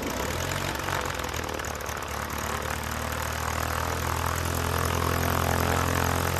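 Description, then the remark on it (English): A small propeller plane's engine drones steadily at a public airport in Madison County, Kentucky, used by students of a university aviation program, a constant buzzing roar with a low harmonic hum, holding at a loud, even level throughout with no voices. “A good place to start is the public airport in Madison County, where students enrolled in Eastern Kentucky University's aviation program may take off and land as many as 100 times a day.”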